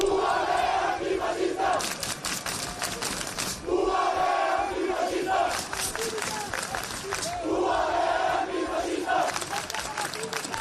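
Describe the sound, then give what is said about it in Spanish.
A crowd of protesters at the Autonomous University of Barcelona (UAB) shouts chants such as "Antifascistas" in unison against an event of the student association Sacabat. The chants come as loud rhythmic bursts of many voices rising and falling in repeated phrases, with a noisy roar of the crowd continuing between chants. “Bueno, gritan, en mis tiempos.”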